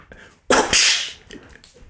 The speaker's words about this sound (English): Ow, that's my whip.